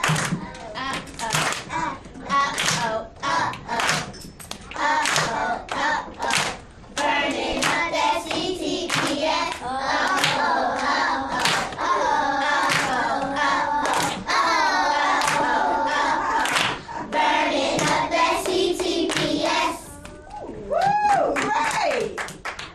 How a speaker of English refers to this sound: 5, 6, 7, 8, clap.